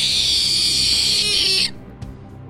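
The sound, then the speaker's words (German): A creature knocked away by a shield tumbles in the air, pushes its chest forward and lets out a loud, harsh, high-pitched, disgusting screech that holds steady for well over a second, then cuts off abruptly, followed by a soft thud. “Die Kreatur taumelt in der Luft umher, fängt sich wieder, streckt seine Brust nach vorne aus und stößt ein widerwärtiges Kreischen aus.”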